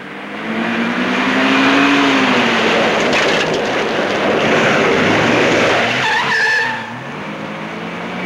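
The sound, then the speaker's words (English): A car backs out of a parking space, then its engine roars and tires skid and crunch over a dirt road, raising a cloud of dust as it accelerates hard and speeds off, the noise staying loud before easing toward the end. “He backs out of his parking space. Happy jumps out of the way. Liggett's car raises a cloud of dust as it speeds down the dirt road.”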